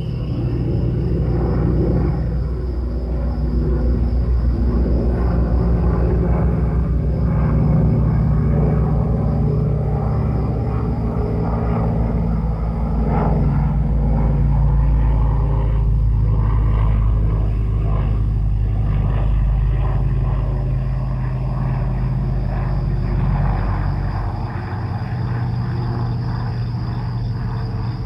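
At night, a deep, steady airplane drone rumbles continuously and fairly loudly as the plane approaches, holding an even level throughout, while a thin, constant buzz of crickets or insects hums faintly above it.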